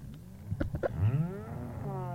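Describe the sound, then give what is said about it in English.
Ice melting in the Antarctic summer, recorded underwater off the coast of the Antarctic by British nature sound recordist Chris Watson: a few sharp pops and cracks, then drawn-out, moaning harmonic groans that bend in pitch and echo, steady in loudness, with no talking. “This is the sound of the ice melting in the Antarctic summer.”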